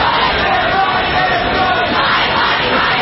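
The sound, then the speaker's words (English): A protest crowd in Washington, the day after the U.S. Supreme Court overturned Roe v. Wade, yells and shouts continuously, a loud, steady roar of many voices with overlapping cries filling the whole scene without a break. “Crowds gathered in Washington and elsewhere around the country.”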